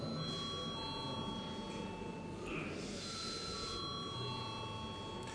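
A parliament chamber bell rings continuously for several seconds before a first-reading vote on a bill amending the State Civil Service Law, a steady electric ringing over a low murmur of room noise.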